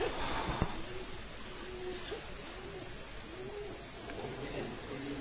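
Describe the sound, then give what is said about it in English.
A pigeon coos repeatedly in soft, rolling phrases around two or three times, over a steady background hiss with a brief thump near the start. “Oh, it's a pigeon.”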